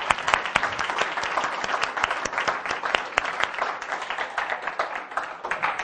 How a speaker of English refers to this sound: So I wanted to thank them and give them a round of applause.